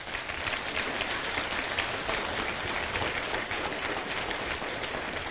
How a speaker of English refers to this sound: please help me give Mr. David Hall a round of applause